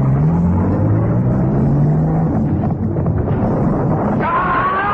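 A car engine revs loudly under a thick, rumbling roar, its low hum climbing slightly in pitch before a higher whine rises near the end. No one speaks.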